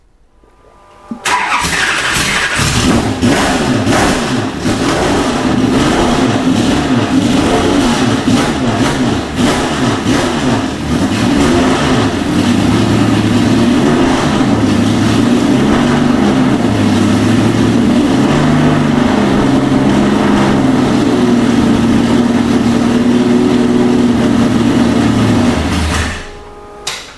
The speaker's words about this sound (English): We will fire it up so you can hear it, but obviously we can't drive it because it's a race car and all we have is a bunch of streets and a bunch of cops around us.